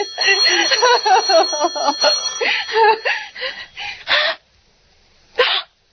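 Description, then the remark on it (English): A telephone rings with a loud, rapid buzzing trill for about four seconds, falls silent, then a short harsh burst sounds after a brief pause. “Oh, let it ring. Let it go on ringing. It's a trick of some kind. I won't answer it.”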